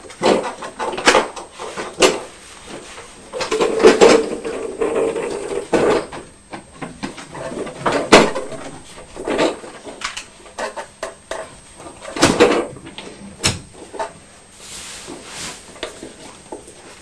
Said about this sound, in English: Are you taking all the Teletubbies out of the bike and putting them back in the chair?